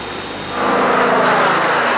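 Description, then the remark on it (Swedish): Soviet propeller warplanes roar as they take off at dawn to knock out German bombers still on their airfields, a steady engine drone that swells louder partway through and then holds as a dense, rumbling wash of sound with no voices. “Sovjetiska flygplan lyfte i gryningen för att oskadliggöra de tyska bombplanen medan de stod kvar på sina flygfält.”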